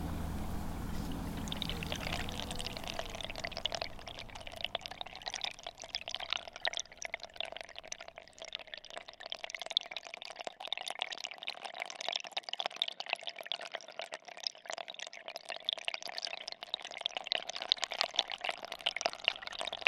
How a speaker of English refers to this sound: My favourite spot is just where the water is hitting the river, right here.